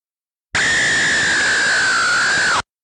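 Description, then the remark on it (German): An angle grinder cutting steel: a loud, harsh grinding roar with a steady high-pitched whine that sags slightly in pitch near the end, lasting about two seconds and stopping abruptly. “Es ist eine Flex. Flex auf Stahl.”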